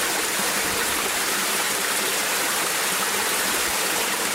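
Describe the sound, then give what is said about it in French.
Water roars steadily over a river dam, a dense, continuous rushing wash that stays loud for the whole stretch with no pauses and no voices. “Un barrage, qui, bien entendu, les empêche complètement de remonter vers les zones de reproduction.”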